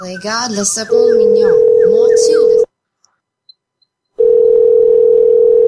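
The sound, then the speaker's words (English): A brief voice gives way to a Skype call ringing tone while the call is being added to a conference: a steady, loud, low-pitched tone sounds for under two seconds, goes silent for about a second and a half, then returns. “Trying the call again. It says it'll be put on hold.”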